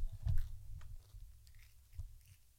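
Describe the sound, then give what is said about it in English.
Crunchy food being chewed right up against the microphone, with a loud bite near the start followed by softer, irregular crunching and mouth sounds. No talking. “Oh, I hear you crunching.”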